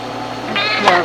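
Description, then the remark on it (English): A single drawn-out cat meow, fairly loud, rising in pitch toward the end, with no talking around it. “You're just like my cat.”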